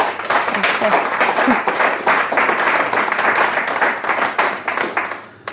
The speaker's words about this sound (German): Begrüßt bitte mit einem herzlichen Applaus Anja Illmeier von Intact Records.